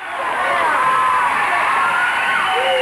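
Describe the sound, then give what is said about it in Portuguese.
A studio audience at SBT's Teatro Silvio Santos in São Paulo cheers and shouts loudly as Vera Verão enters, with laughter and camera flashes, many overlapping voices rising into squeals and yells in a dense, continuous roar that holds steady for a few seconds. “O auditório vinha abaixo com risada, com grito, com flash de câmera.”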